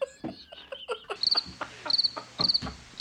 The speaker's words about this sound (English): crickets.